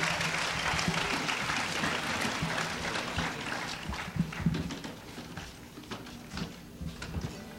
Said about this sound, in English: Let's clap them on the stage, the ….